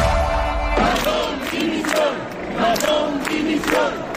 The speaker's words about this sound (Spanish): Eso gritaban los manifestantes que se han concentrado hoy fuera del Scors mientras comparecía Carlos Mazón.